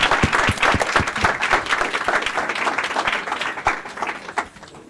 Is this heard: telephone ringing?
no